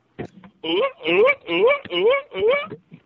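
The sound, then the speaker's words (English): A voice imitates a performing seal with five loud, rhythmic barking honks in quick succession, each rising in pitch, after a short breathy sound at the start. “That's a performing seal in a circus.”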